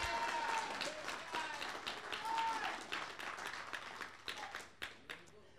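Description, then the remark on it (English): A church audience claps their hands, giving the Lord a hand clap of praise, in a dense burst of applause that thins out toward the end into a few scattered, sharp individual claps. “Give the Lord a hand clap of praise while I get my breath.”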